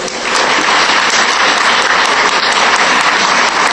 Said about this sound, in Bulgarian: И така. Отново от съвестник министър на економиката и енергетиката, господин Юнал Тасим. Отново може да чуем вашите аплодисменти.